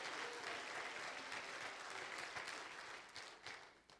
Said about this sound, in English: Come on and clap your hands if you're thankful to be baptized in Jesus' name.